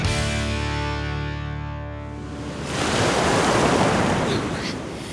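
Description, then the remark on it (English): Cornish sea waves wash onto the shore in the middle of January, where someone is swimming, a broad rushing surge swelling up midway and slowly receding, after a steadier hum-tinged stretch of surf. No one speaks. “Swimming, middle of January, good old Cornish sea, you can't beat it.”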